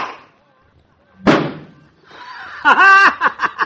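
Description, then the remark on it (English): A golf ball hit down a street strikes the door of a car across the street with a single sharp, loud metallic thunk, putting a big dent in it, followed a moment later by a burst of people laughing. “It's somebody's car across the street there. Put a big dimple in the door of it, Doc.”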